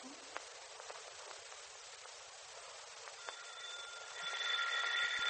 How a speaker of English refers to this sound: It's the doorbell.